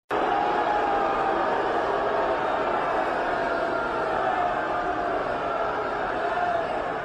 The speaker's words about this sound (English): It's a tape of John Cornyn speaking at the Texas Republican Convention and being booed at the Texas Republican Convention.